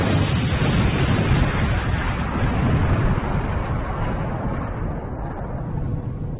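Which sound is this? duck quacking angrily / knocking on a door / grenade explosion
grenade explosion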